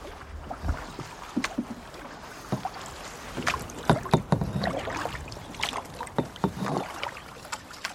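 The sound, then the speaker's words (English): Paddles dip and splash in river water as canoes rafted up as one unit are paddled along, with irregular strokes, knocks and sloshing over a steady watery background and no talking. “Whenever you want to paddle yourselves and paddle your own boat, that's no problem. Up till then, we can stay rafted up as one unit.”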